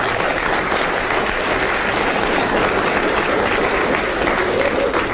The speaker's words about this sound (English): Well-deserved round of applause for David Hatch, Timbuk Taylor, John Cleese and Joe Kendall